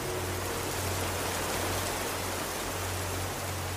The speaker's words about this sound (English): I woke up and found the rain outside had intensified.